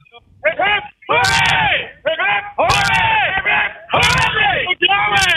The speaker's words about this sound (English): Let's get a big cheer from the whole boat, if we can do that right now. Yeah, three cheers.